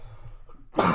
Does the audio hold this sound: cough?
yes